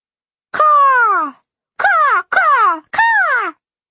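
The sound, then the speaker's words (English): Four loud, harsh crow caws ring out: one long call, a pause, then three shorter caws in quick succession, each with a downward-sliding, raspy tone. No voices are heard. “One crow, then three more. Then a dozen flew into the trees around the house.”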